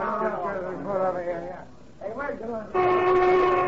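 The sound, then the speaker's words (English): A factory lunch whistle lets out a loud, steady, sustained blast near the end, after a stretch of indistinct voices talking over a low background hum. “The lunch whistle”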